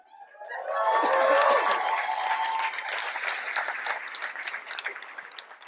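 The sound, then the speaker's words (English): Audience applause at a stand-up comedy set swells quickly and holds steady, a dense wash of many hands clapping with some whoops and tonal cheers early on, then thinning slightly toward the end. “That applause let me mask a really nasty cough.”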